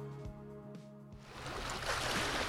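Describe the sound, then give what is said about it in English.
Gentle water laps and washes steadily along the shoreline of a Lake Superior bay, a soft continuous splashing that swells slightly louder toward the end, with a faint low motor-like hum early on. “As water laps along a Lake Superior bay,”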